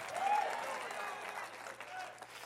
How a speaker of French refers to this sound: applaudissez